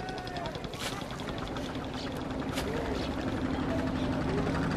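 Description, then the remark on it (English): Motorboat engines drone and chug steadily on the river at Varanasi, India, as boats ferry tourists in the morning, a continuous rumble with a rapid pulsing rhythm, while faint voices drift through the background. “You can hear all the boats out on the river ferrying tourists.”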